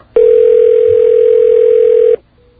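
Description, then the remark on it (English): A loud, steady telephone line tone from calling a fax machine number holds one unwavering mid-low pitch for about two seconds, then cuts off abruptly. No voices are heard. “And either they unplugged it or it's out of paper or something's wrong with it.”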